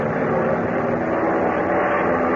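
A steady, loud airplane engine drone fills the whole stretch, a broad rumbling roar with no breaks or changes in rhythm, as the aircraft climbs up above a storm.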